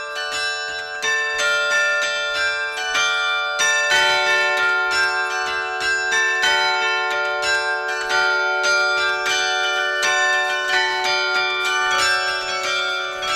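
Church bells ring steadily in a full, overlapping peal, repeated strikes blending into a dense, resonant wash that stays loud and close throughout, with no voices.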